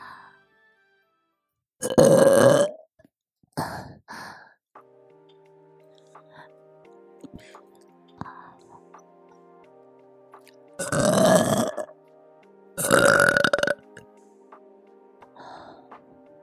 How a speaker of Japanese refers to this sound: どう？久しぶりのママゲップ、嬉しい？